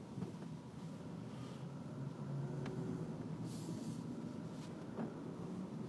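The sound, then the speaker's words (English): Steady low engine rumble of a moving truck, with continuous road noise and a few brief clicks and rattles over the top, no one speaking. “Oh, this truck is moving.”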